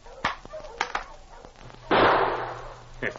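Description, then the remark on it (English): A few sharp clicks and taps lead into a single loud gunshot, fired at a dog in the snow, that rings out and slowly fades, with a low steady hum underneath and a brief crack near the end. “I shoot him after I shoot his master.”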